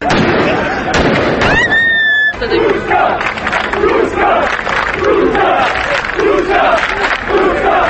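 A large, loud crowd in Novi Pazar, Sandžak, chants celebratory slogans such as "This is Turkey" in a steady, repeating rhythm, celebrating Turkey's basketball win over Serbia at the world championship, with shrill whistling tones and a few sharp bangs near the start amid the continuous roar.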